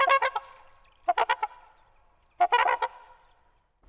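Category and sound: bird, canada geese honking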